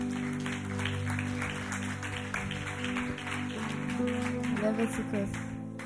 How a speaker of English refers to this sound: Take your seat. Thank you. Congratulations. Clap for her.